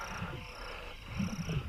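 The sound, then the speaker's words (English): Low, thick bubbling and gurgling of volcanic fumaroles in a garden rises in two bursts, at the start and again near the end, over a steady high insect-like buzz. No one speaks. “And the bubbling noise must be the fumaroles.”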